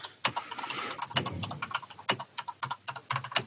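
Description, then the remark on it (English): Quick, uneven bursts of typing on a computer keyboard, a steady clatter of sharp clicks, with brief pauses between flurries and no talking. “Listen to me typing. I love the tickety-tacks.”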